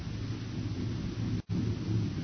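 A deep, continuous rumble of a stampeding herd of critters, raising dust and coming this way, rolls on steadily, thick with low thundering noise, broken only by a split-second gap near the end. No voices are heard.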